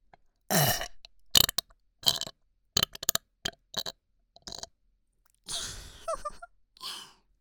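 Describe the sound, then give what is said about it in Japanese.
A string of burps, several loud belches separated by short pauses and quick gulping sounds, with no talking. “もっとさせてほしいな、エロゲップ、ドスケベゲップさせて”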